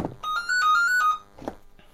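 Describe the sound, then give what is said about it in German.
A second telephone rings during a phone call, with a short electronic melody of bright, steady tones lasting about a second, bracketed by a couple of soft knocks or handling noises; no one speaks. “Jetzt stellt das andere Telefon.”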